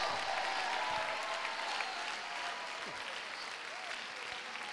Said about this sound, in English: I wish somebody would clap if you hear what I'm preaching.